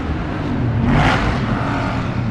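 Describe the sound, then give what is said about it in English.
A car drives along with a steady, fairly loud rumble of engine and road noise, briefly surging and brightening in the middle before settling back. No one speaks. “Please stop the car.”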